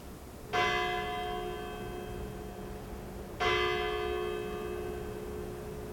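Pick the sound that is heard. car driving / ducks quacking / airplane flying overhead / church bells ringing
church bells ringing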